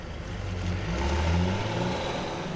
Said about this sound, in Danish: Lastbilen kører hen til en stor fabrik, der hedder et raffinaderi.